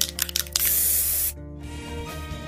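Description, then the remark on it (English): A few quick rattling taps, then a loud burst of Krylon spray paint hissing from an aerosol can steadily for under a second before cutting off abruptly, leaving a faint hum. “Today we spray.”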